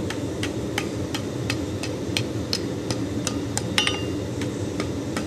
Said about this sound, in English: Just hammering it over the edge of the anvil, getting a nice curve.